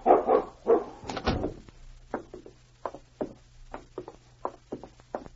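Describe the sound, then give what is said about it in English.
A dog being let outside barks loudly a few times, then keeps up a steady run of shorter, quieter barks at a regular pace, with a low hum underneath and no one talking. “I was just letting my dog out for a few minutes.”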